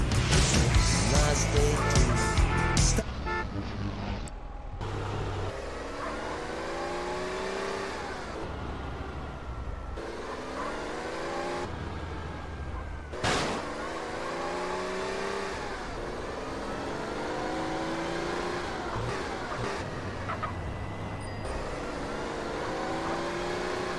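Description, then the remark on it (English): A loud car engine revs again and again, its pitch sweeping upward with each burst of acceleration, after a short harsh, noisy burst at the start. No one speaks. “I can see this car.”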